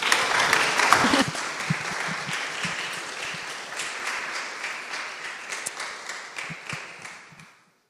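A crowd applauds steadily for several seconds to welcome a man up onto the stage, a dense patter of many hands clapping that holds fairly level, then fades out quickly near the end.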